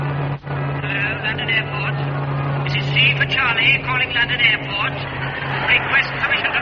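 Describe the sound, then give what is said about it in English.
A steady, droning aeroplane engine picked up on a radio during the programme These You Have Loved hums continuously at moderate loudness, with a low tonal whine underneath and faint, garbled voice-like warbling rising and falling over it. “West, I'm getting an aeroplane in these you have loved.”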